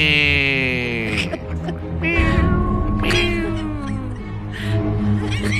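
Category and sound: animal, cat meowing plaintively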